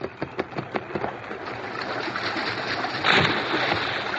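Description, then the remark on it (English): A few sharp splashes as the masked man, the Lone Ranger, goes into a river to reach a man in the water give way to steady churning water, then a louder surge of splashing near the end, fairly loud, with no voices. “An instant later, the masked man was in the water.”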